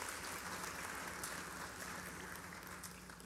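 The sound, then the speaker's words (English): A crowd at Northgate applauds steadily to welcome a new member into membership, a dense wash of many hands clapping at once that holds an even, fairly loud level throughout with no voices rising above it. “You can clap for her.”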